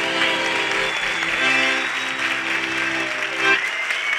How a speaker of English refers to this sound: Ladies and gentlemen, another warm round of applause for …. Thank you.